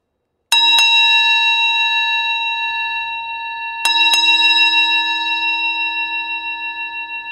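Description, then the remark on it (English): A bell rings out twice, a few seconds apart, each strike leaving a long, shimmering resonance that slowly fades. The second strike sounds slightly louder, the bell near and coming nearer, at the hour of the ox. “She heard the bell, and it was near.”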